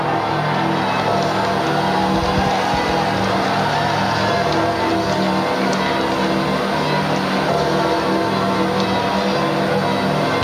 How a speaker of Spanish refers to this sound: Vamos a escuchar las campanas de San Pedro repicando.